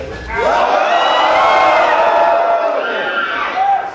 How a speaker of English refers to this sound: So let's just have a group primal scream right now.